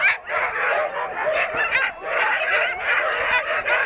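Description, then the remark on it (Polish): A chorus of excited sled dogs barks and yips nonstop, many voices overlapping into a dense, loud clamor with no pauses, at the start of a sled dog race in the Bieszczady mountains, Poland. “Pieski cieszą się dużym zainteresowaniem.”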